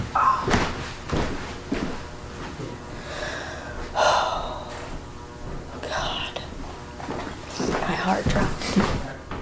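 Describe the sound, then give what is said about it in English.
A back door bangs a few times, sharp knocks cutting through soft whispering and breathy sounds. “The back door just opened. Maybe the wind opened it.”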